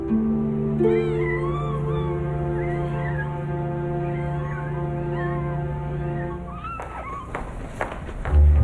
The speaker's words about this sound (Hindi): बिल्लियाँ आ गईं, मैं जाकर उकड़ने के लिए दूध लाऊं।